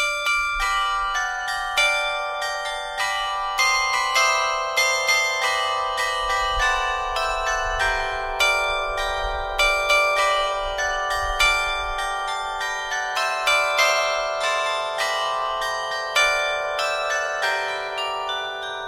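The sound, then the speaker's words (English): Bells in a belfry peal continuously, with many overlapping strikes ringing out in a steady, rolling rhythm, loud, their tones sustaining and blending together with no voices present. “In this second episode, the focus is on bells in the belfry.”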